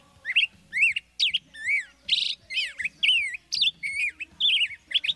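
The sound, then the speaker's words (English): A black-headed grosbeak sings a rollicking song of rich, whistled phrases that rise and fall in quick succession, about a dozen warbled notes delivered alone with no talking. “Listen for the rollicking song of the black-headed grosbeak this summer, especially in streamside woods.”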